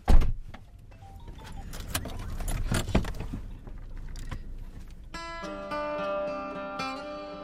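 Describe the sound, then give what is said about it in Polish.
Someone gets into a car: a door thumps shut amid jangling keys and rustling, then a steady, tonal electric whir sets in, like a power window moving, moderately loud. “Ja będę wchodzę do samochodu. Będziesz wchodził do samochodu, tak.”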